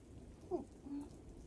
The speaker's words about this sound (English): The storm is too loud, and I can't stop thinking about what's going on outside.